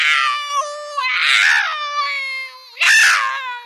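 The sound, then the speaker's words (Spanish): A big cat screams in pain as the small hairs beside its claws are pulled, a loud, drawn-out yowl that swells into two sharper shrieks, heard alone with no talking. “El gato grande empezó a gritar.”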